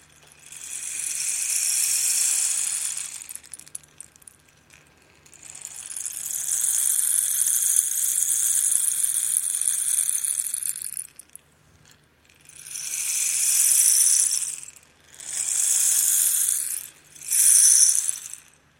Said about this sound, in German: Liebe Gemeinde, Regengeräusche. Nach dem, was wir von Catherine gehört haben, können wir uns vorstellen, dass das für manche Menschen auf dieser Welt die schönsten Klänge sind, die sie kennen.